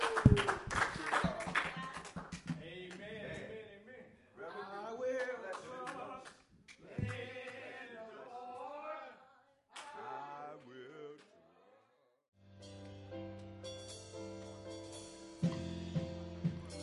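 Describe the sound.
A burst of hand clapping in praise of Jesus from an audience at a morning sermon at Pilgrim Branch Missionary Baptist Church in Houston opens loudly, quickly giving way to a speaking voice, with steady organ-like music rising near the end.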